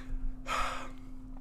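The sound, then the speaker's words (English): A single loud, raspy snore, a harsh breathy burst lasting about half a second over a faint steady hum, with no one talking. “That was such a loud fucking snore.”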